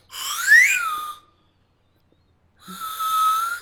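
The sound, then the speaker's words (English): A slide whistle blown twice while the slide is dragged: a breathy first note that glides upward in pitch, a second of silence, then a steadier, sustained second tone. No voices. “I'm just whistling and then dragging the slide.”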